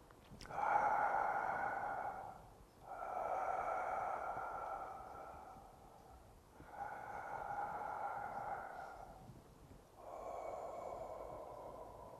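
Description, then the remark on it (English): Slow, deep breaths of a person observing their breathing in meditation: four long airy inhales and exhales in a steady, unhurried rhythm with brief pauses between them. Nobody speaks. “But if you're sitting here just observing the breathing, now, I'm in a state of samadhi, non-distracted awareness.”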